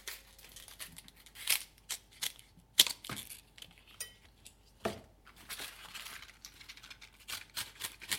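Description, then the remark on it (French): Crisp crunching cuts as chard stalks are chopped with a knife into large chunks, a dozen or more irregular knife strokes with brief pauses between them and no talking. “Ensuite, on coupe les côtes en gros tronçons et on attend que l'eau soit bouillante.”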